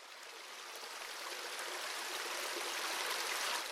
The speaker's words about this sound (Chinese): 说话，小溪流说话，哗哗，哗哗。